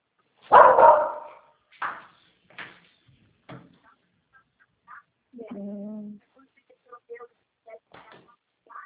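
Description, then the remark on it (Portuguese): A pet dog barks during its owner's phone call, several times in short, uneven bursts, the first bark loudest, followed by a longer whining, harmonic yelp and a few quieter sounds; no speech. “Toda ligação que eu faço, ele tá O latindo.”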